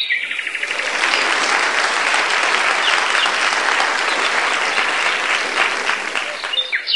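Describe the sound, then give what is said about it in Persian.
A group of children clap together in a sustained, dense burst of applause that holds steady for several seconds, fairly loud, before tapering off at the end. “بچه ها نمیخواد تشویقش کنیم.”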